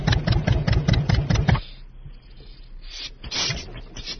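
A tractor engine chugs loudly in quick, regular pulses for a second and a half, then drops to a softer, steady low rumble as it keeps running.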